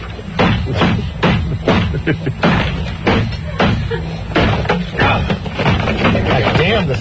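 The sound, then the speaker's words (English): Repeated heavy hammer blows smash a Japanese-made camera on a wooden surface, with sharp thuds and cracking impacts, the lens cracking, arriving in an irregular series over several seconds while voices murmur underneath. “The hammer got stuck inside there. I think I heard the lens crack.”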